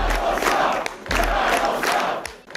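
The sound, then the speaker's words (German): A large crowd of national-conservative supporters in Poland cheers and shouts loudly and continuously, celebrating the Law and Justice (PiS) party's parliamentary election win. A dense roar of many voices with rhythmic surges about once a second, like chanting, with no single speaker audible. “In Polen jubeln die Nationalkonservativen.”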